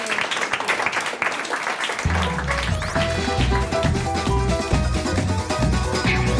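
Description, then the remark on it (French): A game show audience applauds the effort with dense, steady clapping, and after about two seconds a bass-heavy musical sting starts, playing loudly over the fading applause. “Vous pouvez quand même applaudir l'effort.”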